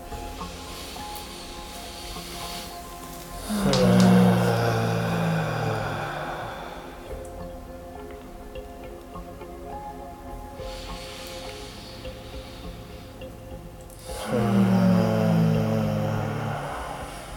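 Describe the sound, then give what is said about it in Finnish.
Two slow, deep inhalations spaced about ten seconds apart, each an airy rush of breath that swells and fades, with quiet stillness between them and no talking. “Muutama syvä sisäänuhaus, hengitys.”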